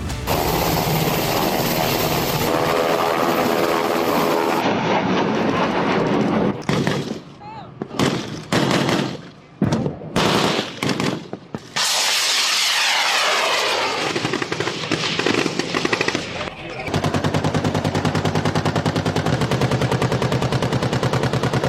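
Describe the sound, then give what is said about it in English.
Military aircraft engines roar loudly throughout during war drills by China and Taiwan, with a sweeping jet pass in the middle and a run of sharp, rapid bursts like gunfire breaking up the steady engine noise. “The sound of war drills as both sides flex military muscle,”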